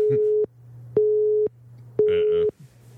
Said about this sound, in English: User is busy.